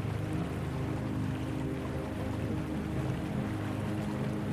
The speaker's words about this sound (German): Steig nur hinein. Es blubbert und brodelt wie in einem riesigen Kessel. Die wilden Blasen geben den Rhythmus an und übertönen alles und jeden um uns herum.